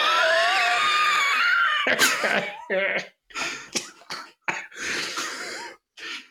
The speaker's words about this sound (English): Also, my karaoke cough.